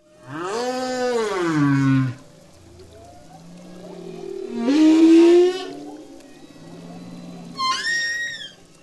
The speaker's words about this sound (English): Those are humpback whales off the coast of Maui, recorded for the NPR National Geographic series, Radio Expeditions.